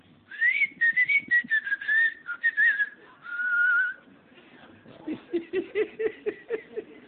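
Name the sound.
person whistling a call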